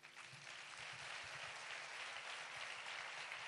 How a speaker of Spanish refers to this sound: Recibimos con un enorme aplauso a Argentina.